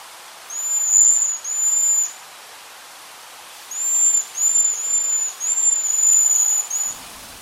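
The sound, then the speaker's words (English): A fruit-eating bird gives thin, high sighing whistles, two short notes, a pause, then a run of about five more in quick succession, fairly clear over a faint hiss. “And the other one is called a sighing whistle.”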